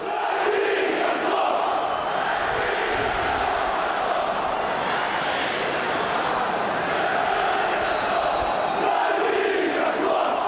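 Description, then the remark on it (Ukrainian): Shakhtar Donetsk fans chant in unison at the Donbas Arena during a match against Dynamo Kyiv on 4 August, a dense roar of many voices that stays loud and steady throughout, with rhythmic swells of shouting; they shout the chant 'Davy khokhliv' and burn scarves of the Kyiv club. “Таку думку висловили представники української опозиції після того, як 4 серпня під час матчу «Шахтар-Донецьк-Динамо-Київ» фанати гірників на Донбас-арені палили шарфи з символікою столичного клубу і вигукували «Дави хохлів».”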